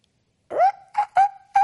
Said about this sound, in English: You hear the rooster?